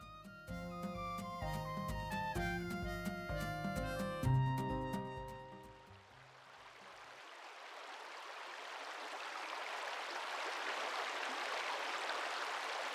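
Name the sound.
rushing river water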